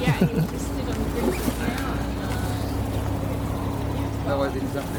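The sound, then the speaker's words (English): Boat motors that have just kicked in drone steadily as the boat pulls away, a low, continuous rumble and hum at a constant level, with water sounds and faint indistinct voices mixed in. “isn't driven by our motors, and our motors have just kicked in.”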